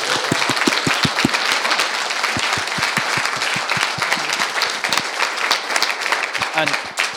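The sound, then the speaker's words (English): A conference audience applauds steadily to thank Cernet for hosting the conference, many hands clapping in a dense, continuous patter with sharp individual claps standing out, loud and sustained for several seconds with no talking. “Firstly, I would like everybody to thank and applaud Cernet for hosting the conference.”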